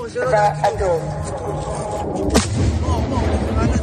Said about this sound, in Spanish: Misiles contra Israel que eran repelidos por el sistema de defensa llamado Cúpula de Hierro, como estás escuchando.